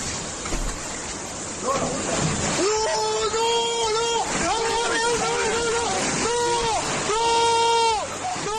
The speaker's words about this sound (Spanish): de donde hemos visto además vídeos impresionantes, realmente impactantes, como uno de Covisa, en Toledo, donde se ve como la fuerza del agua derriba el muro de una casa hasta entrar en el interior.